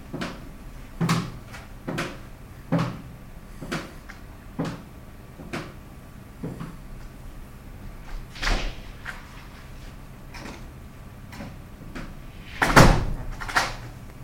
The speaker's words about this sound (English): They think that locking the door will keep me in. We'll see about that.